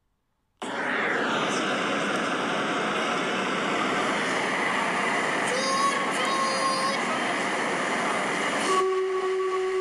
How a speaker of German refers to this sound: Da kommt er an, der Zug, ruft eine elegant gekleidete Frau neben mir. Schnaubend rollt der Zug auf dem Bahnsteig. Rauch wird ausgestoßen und die Bremsen quietschen.